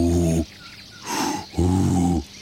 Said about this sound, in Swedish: Alltså det måste vara sjukt häftigt när man är ung rördrom och för första gången ska tuta och få till ett sånt där.